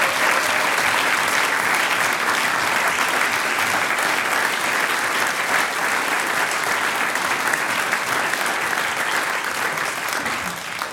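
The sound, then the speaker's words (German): A large audience applauds a folk music band at a live event for about eleven seconds, a dense, sustained wash of clapping that stays loud throughout before tapering slightly at the very end. “Das ist euer Applaus.”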